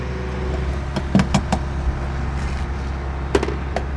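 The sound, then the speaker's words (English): A car being refueled at a gas pump: a steady low mechanical hum runs throughout, broken by several sharp clicks and knocks, some in quick succession, with no voices. “That's why I'm down here filling up right now.”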